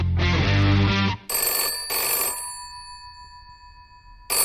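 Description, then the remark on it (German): A telephone rings as a spontaneous call is placed, in loud bursts of a bright, metallic bell tone, with a lingering ring-out between bursts and another ring starting at the end; no one speaks. “Der spontane Anruf.”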